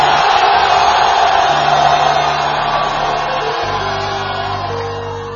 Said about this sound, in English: Somebody shout, Jesus! Screaming at the top of your voice, Jesus!